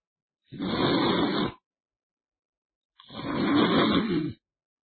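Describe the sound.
A voice imitates the loud snoring of Yu Qian, asleep leaning back in an armchair: two long, rasping, rattling breaths, the second slightly longer, separated by a short pause, with no other sounds.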